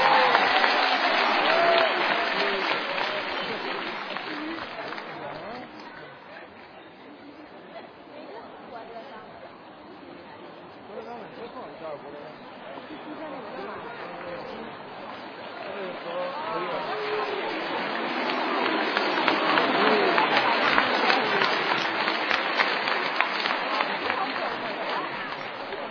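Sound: audience applause welcoming performers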